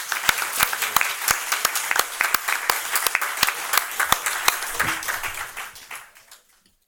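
Audience applause of many hands clapping in a dense, irregular patter, holding steady for several seconds before fading out to silence.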